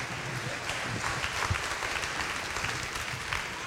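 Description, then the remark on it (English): An audience claps steadily for several seconds for a group of children, a dense, sustained patter of applause at moderate loudness with no one speaking over it. “Everyone, give them a round of hand.”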